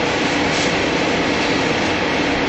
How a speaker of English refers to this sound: Anyway, this bus is a freeway flyer, they call them. And basically is they get on the freeway and they go. So yeah, they don't take service streets. Some of them do, but if they do, they're really short routes for service streets.